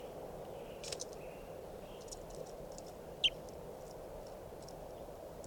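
Wild birds give faint, scattered high chirps over a steady background hiss, with one sharper, louder call standing out partway through. No one speaks.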